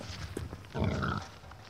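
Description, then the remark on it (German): A pig gives one short, rough grunt outdoors in a farm's outdoor pig run, over a low farmyard background with faint shuffling and scattered knocks. “Ebenso wie die Kühe haben auch die Schweine Auslauf und werden nicht auf schnellstem Wege hochgepusht,”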